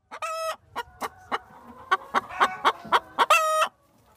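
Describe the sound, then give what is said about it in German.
Hens clucking in a farmyard: a series of short, sharp clucks in an irregular rhythm, bracketed by two longer drawn-out cackles, clear with no talking. “Wir von Radio Mikrowelle freuen uns, dass wir hier auf Ihrem Hof sein dürfen. Ihren Hühnern scheint es ja wirklich sehr gut zu gehen.”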